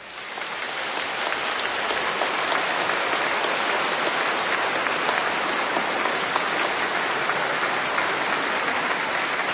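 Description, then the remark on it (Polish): A large crowd in a church breaks into sustained applause to greet listeners and viewers in Poland and worldwide during a Radio Maryja and TV Trwam broadcast, many hands clapping in a dense, steady roar that swells in the first second and holds loud and even throughout, with no voices heard. “Przywitajmy wszystkich w Polsce i na całym świecie bardzo serdecznymi oklaskami.”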